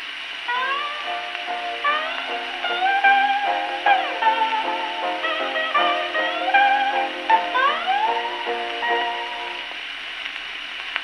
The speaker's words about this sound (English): Paddy reproduces each and every tone faithfully. Hark to the delicate tones of the Hawaiian guitars and ukulele,